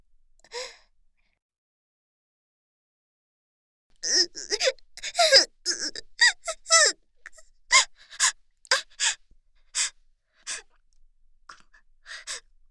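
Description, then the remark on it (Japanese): A woman at an ear-cleaning shop suddenly cries in front of a customer, in a burst of gasping, breathy sobs that quicken into a rapid, uneven rhythm of high, shaky catches of breath, following a brief faint sound and a few seconds of silence. “ごめんなさい。突然泣いてしまって。”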